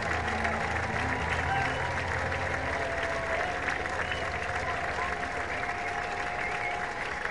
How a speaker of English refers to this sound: Just flat out brilliant night. 7 strikeouts, 5 1/3 no-hit innings, and he comes off to a round of applause.